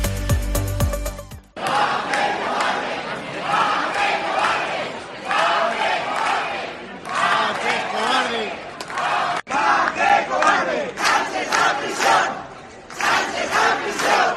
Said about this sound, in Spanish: Ante la sede del Partido Socialista en la calle Pedro Coca, cerca de 200 personas se dejaron escuchar este lunes con gritos en contra de la amnistía a los condenados por el proceso de Pedro Sánchez y de Emiliano García Page.